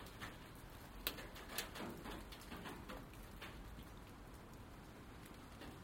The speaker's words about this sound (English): It's rain being blown off the trees onto the top of the shed with a strong gust.